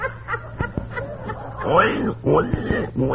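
A sick pet pig named Lover Boy, who is getting worse, grunts and oinks in a strained, unhealthy way: a quick string of snorting grunts followed by a few longer, wavering squeals, fairly loud, with no talking.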